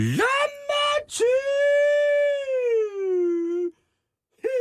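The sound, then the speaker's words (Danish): A man lets out a loud, sustained scream lasting a few seconds, with strained vocal tone, preceded by short cries and followed by a brief silence. “Og så bare begynd at skrige.”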